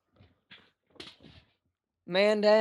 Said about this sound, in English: Man down. Did you fall out of your chair? My chair fell backwards.